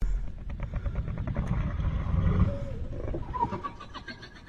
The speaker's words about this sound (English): The calmness of the night was interrupted by shock waves which spread in the ground every second.